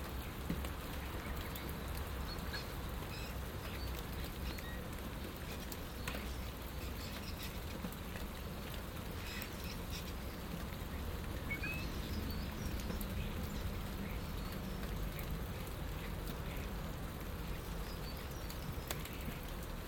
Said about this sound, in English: So pleasant just standing here, leaning against the shed in the dry and listening to the rain, watching the birds.